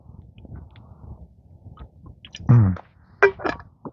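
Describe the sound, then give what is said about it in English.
A quiet, low rumble gives way to a loud, wet slurp of water, then two shorter sucking gulps follow in quick succession, with no one speaking. “Speaking of water, time for a little slurp.”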